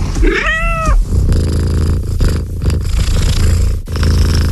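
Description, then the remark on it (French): A single drawn-out cat meow with a bright, wavering pitch opens an advert for the new electric Ford Puma Gen-E, followed by several seconds of low, steady rumbling like a loud purr, with no voices. “Nouveau Ford Puma Gen-E, le félin passe à l'électrique.”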